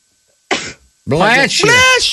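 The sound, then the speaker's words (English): A single short, sharp sneeze bursts out, followed a moment later by a voice speaking briefly. “Bless you.”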